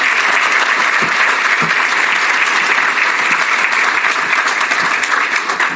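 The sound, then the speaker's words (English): Steady, loud applause from a sizable City Club audience in Chicago, giving a round of applause to the Phil Foundation. It is a dense wash of many hands clapping at once without pause for several seconds, with no one talking over it. “Can we get another round of applause to the Phil Foundation?”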